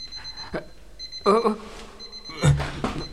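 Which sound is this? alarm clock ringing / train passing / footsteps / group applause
alarm clock ringing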